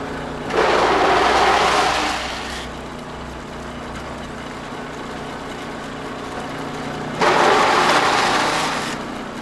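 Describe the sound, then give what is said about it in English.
A big cast iron, roll gear leather setting out machine at a parchment maker and tannery, decades old and used on cowhides, hums steadily, broken by two loud, broad grinding surges: one lasting about two seconds early on, another rising near the end. No one speaks. “This big cast iron and roll gear contraption is called a setting out machine.”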